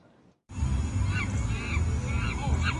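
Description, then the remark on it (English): Recorded monkey noises blare from a neighbor's home speakers in Salem Lakes, captured on a cell phone, starting abruptly after a brief quiet moment: a loud, steady stream of warbling, rising-and-falling cries over a heavy, muddy low-end rumble. “She says it shows her Salem Lakes neighbor using speakers to play monkey noises”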